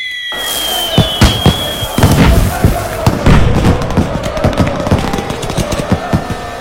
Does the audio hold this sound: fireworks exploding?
yes